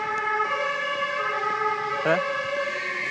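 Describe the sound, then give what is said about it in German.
A fire engine siren blares steadily and loudly throughout, its sustained harmonic tone briefly bending in pitch near the end as the vehicle moves past. “Wenn er das hört, dann hört er das, was ich schon den ganzen Tag höre, dieses Tatütata hier. Wir fahren schon den ganzen Tag Feuerwehr entlang.”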